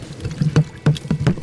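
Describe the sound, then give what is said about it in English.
A spoon stirring avocado citrus soup in a bowl after sugar, salt and black pepper are added, with quick repeated sloshing strokes and soft clinks against the sides, steady, with no talking. “So all that goes in, and you want to stir it well.”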